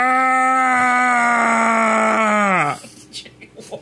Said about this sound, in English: What was that? Was a primal scream of your people or what, yeah, dude? Yeah, man. That was intense. It comes from the cave people.